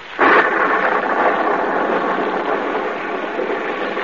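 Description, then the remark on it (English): A sudden burst of thunder opens into a steady, dense roar of heavy rain at night on a muddy road, holding at a constant loud level throughout, with no voices. “Gaze up this muddy, rain-splattered road. A small, lonely stone building appears against the lightning-streaked sky.”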